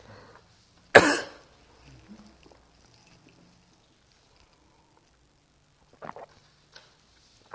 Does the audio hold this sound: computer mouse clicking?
no